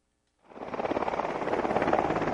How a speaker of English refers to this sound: A Black Hawk helicopter touched down outside the National Guard hangar in Bethel. Behind it, fluffy white clouds and a blue sky.